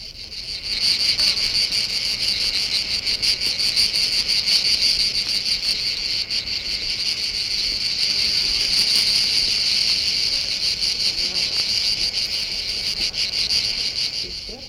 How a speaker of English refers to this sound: Cicadas are able to vibrate membranes or pieces of skin on the sides of their bodies. This makes a shrill whining noise. Here are some cicadas and flies in southern France.